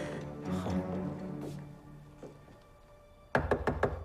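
Toronto police knock firmly on a door several times in a quick, loud burst near the end, following a stretch of muffled low background rumble with a faint tonal hum.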